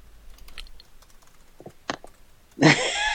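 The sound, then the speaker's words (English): Irregular clicks of keys being typed on a computer keyboard, quiet and scattered, then cut off by a sudden loud, rough burst of noise at the end. No one speaks. “Are you just typing in and hitting send message? No, I'm hitting enter like it told me to.”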